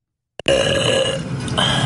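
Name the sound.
woman burping loudly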